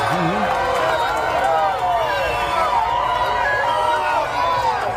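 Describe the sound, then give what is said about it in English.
A crowd of thousands cheers and shouts continuously for Donald Trump in New York City, many voices overlapping into a loud, sustained roar with rising and falling yells throughout. “Donald Trump, who is a criminal, Donald Trump, who is a felon, Donald Trump, who is one of the most corrupt people you could ever imagine, greeted by thousands of people cheering yesterday.”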